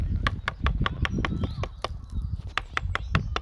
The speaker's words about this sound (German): Ein Specht, der sich sein Nest in den Baum zimmert.